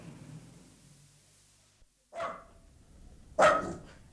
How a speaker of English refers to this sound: Get that dog in back kitchen out of my way, else I shall go spare. Come on, Shakespeare, good boy.